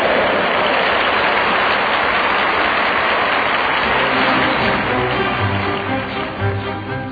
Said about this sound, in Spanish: Al salir Nariz Verde, el perro embistió, pero como es valiente, con gracia lo toreó, y todos los enanos le aplauden a rabiar.